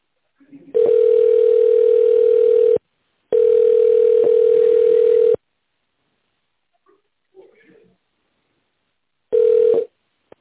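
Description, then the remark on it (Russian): A steady, mid-pitched telephone hold tone on a call to the trading house Russkaya Shkola, waiting for a free manager to answer, repeats in long pulses of about two seconds, with a pause and a few faint rustles before a shorter final pulse. “Пожалуйста, дождитесь ответа свободного менеджера.”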